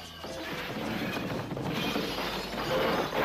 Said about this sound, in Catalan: Van caure a terra i es van trencar en trossets petits, petits. Amb el soroll de la trencadissa va venir corrent el gran savi Catifa.